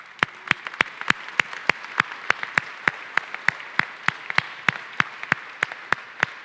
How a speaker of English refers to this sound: Amen, and give God a clap.